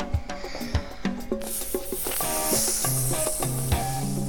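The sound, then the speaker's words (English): A voice mimics fire with a steady, breathy hiss and sizzle that starts after a brief moment and continues to the end, heard over soft background tones. “Okay, what's fire?”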